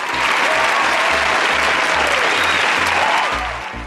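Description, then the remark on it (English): Steady, dense applause from a group of people, a continuous wash of clapping at a constant loud level for a few seconds before easing slightly at the end. “So round of applause to you, our listeners.”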